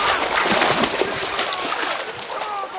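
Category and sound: nature, splashing water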